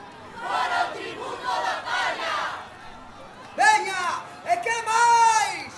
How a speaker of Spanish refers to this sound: Desde la plaza, aquella masa indignada gritó al mismo tiempo.